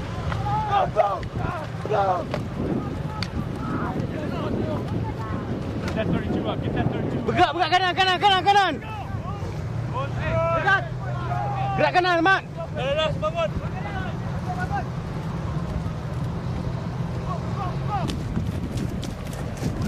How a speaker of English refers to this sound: Lines of AAVs already fill the bay, churning through choppy water.